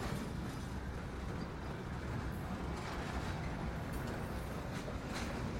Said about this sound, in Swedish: Parallella järnvägsspår dyker upp vid sidan av tåget och det saktar ner en aning.